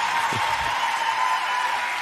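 An audience applauds in a steady, dense wash of clapping that holds evenly throughout, with a brief low murmur near the start. The applause is for a guest performer.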